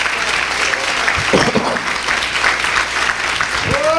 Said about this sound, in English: That's why I tell you, don't hold your hands. But the Bible said, clap your hands, all ye people. It means something to give God praise. Now, why don't you clap your hands and give him praise?